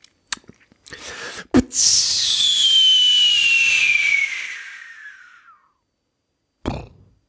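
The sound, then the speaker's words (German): A voice imitates a firework rocket: a few sputtering clicks, then a long, loud hissing whistle sliding steadily downward in pitch for several seconds, followed after a pause by one short burst. “An der Explosion am Ende muss nur arbeiten, aber ich finde das Anzünden und Wegfliegen finde ich großartig.”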